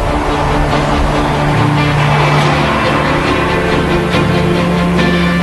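A heavy road train rumbles past, its deep engine drone and broad road roar staying loud and steady throughout, with no voices. It is a truck convoy in the Pilbara region with four trailers, 128 tyres and 90 metres long, mostly loaded with iron ore.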